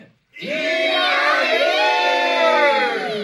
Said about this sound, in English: The otters leapt up, bellowing and cheering, roaring and chanting.